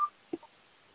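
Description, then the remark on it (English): A few short electronic phone beeps at uneven intervals, thin and tinny as if heard over a phone line, followed by quiet line hiss with no talking. “Could whoever has the beeping mute their phone?”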